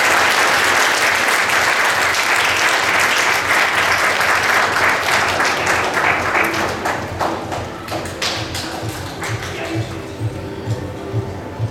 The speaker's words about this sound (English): And another round of applause for Julie.